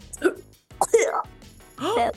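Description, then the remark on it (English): A person mimics a cat hacking up a furball during a cat concert, making three strained, gagging vocal bursts with brief pauses between them, fairly loud. “coughed up a furball”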